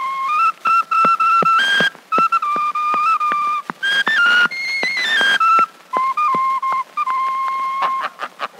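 A person whistles a lilting folk melody, clear and close, with bright sustained notes gliding between pitches over several phrases and brief pauses, no talking.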